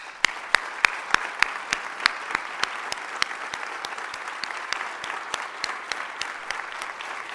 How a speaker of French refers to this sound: Et donc je voudrais qu'on l'applaudisse.